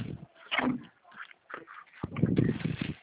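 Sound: chicken clucking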